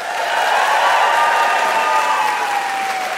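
Loud, sustained applause from a large crowd, a dense continuous patter of clapping with a faint high whistle or cheer running through it, steady throughout with no speech.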